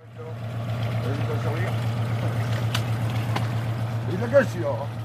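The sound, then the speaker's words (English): Ambience of a town's port near Cherbourg, France, with several moored fishing boats: a steady low engine drone over lapping water, a couple of sharp metallic clanks, a brief high call near the end, and faint voices in the background. “Several fishing boats were moored at the town's port, and the fishermen here said they were worried.”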